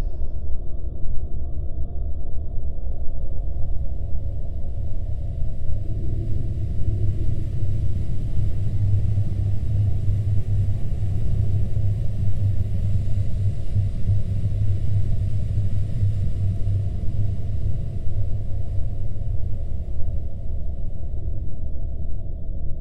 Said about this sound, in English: Can you hear the rushing sound of the burning sun?